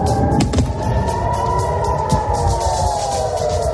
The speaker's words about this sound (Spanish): Así suena hoy Gaza. Desde las 6 de la mañana las explosiones han regresado a la franja.